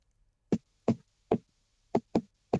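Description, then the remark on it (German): Six sharp knocks tapped out in a quick uneven rhythm following the syllables of a name, three spaced beats, then a faster cluster of three, with silence in between and no talking. “Dann komm, klopf gleich mal, bevor du ihn vergessen hast.”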